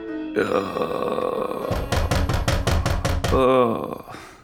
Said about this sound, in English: Oh, my head is pounding. And now it's pounding so loud it sounds like it's coming from the door.